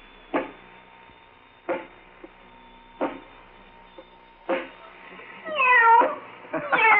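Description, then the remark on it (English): Several short clunks at steady intervals as a robot is told to go over to a kitten, pick it up and pet it, followed near the end by a few high, wavering kitten meows, fairly loud, with no talking. “Go over to the kitten. Pick it up. And pet the kitty. Nice kitty.”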